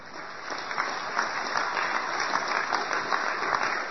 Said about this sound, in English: That ain't some real high-class clapping like what you get when you're David Bossie's mother-in-law and you holler about how the Mexicans is rats and cockroaches.